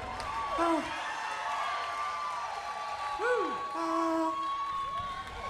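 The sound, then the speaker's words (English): A concert crowd cheers in a steady, loud roar as the band comes on stage, with shrill whistles sliding up and down above the dense wash of voices and clapping. “And here they come. Let's hear this crowd.”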